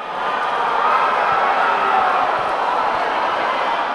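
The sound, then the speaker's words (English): A large crowd, including many supporters of Maduro's government and the ruling Socialist Party, roars steadily, a dense wash of many overlapping voices shouting and heckling Juan Guaidó on his return home from a tour overseas, with no single speaker standing out. “Well, you're listening to a big crowd, and that crowd included a lot of supporters of Maduro's government and the ruling Socialist Party”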